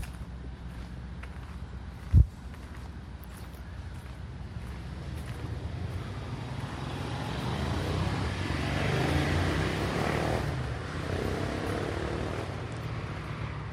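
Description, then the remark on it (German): A steady low rumble of road traffic, heard from a forest near the Stuttgart TV tower, fills the background, swelling slightly in the middle, with a single sharp thump near the start and a breezy hiss throughout. “Wenn Sie genau hinhören, können Sie abseits von dem Straßenlärm die verschiedenen Sendungen hören, die von dem Fernsehturm ausgehen.”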